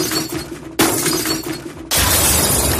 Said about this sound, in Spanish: Seguro que si tienes un contenedor de vidrio debajo de tu casa habrás escuchado esto mientras intentabas dormir. Es el ruido que hacen las botellas y los botes de cristal cuando los echamos al contenedor verde